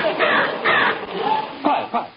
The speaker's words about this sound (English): Quiet, everyone. Listen to that bird. Now, who can identify that bird call?